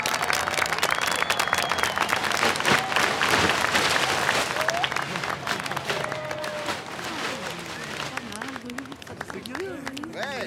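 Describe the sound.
An audience applauds steadily at the inauguration of a monumental roundabout boxwood topiary in the likeness of a woman, dense clapping running the whole ten seconds at a fairly loud level, with crowd voices and a few rising shouts or whoops mixed in, becoming more noticeable toward the end.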